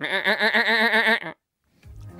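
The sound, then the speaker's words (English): A single loud, wavering goat bleat lasting just over a second, then sudden silence before a faint rustle and low thump at the very end. “doing the goat noise or if it's a pre-organized one”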